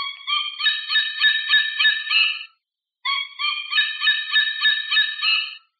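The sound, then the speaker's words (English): An artificial white-tailed eagle call from an Audubon musical bird toy: two bursts of rapid, shrill yelping notes, each lasting a couple of seconds, separated by a brief pause. Clear and alone, with no talking. “And this is this time's artificial bird. This is the white-tailed eagle.”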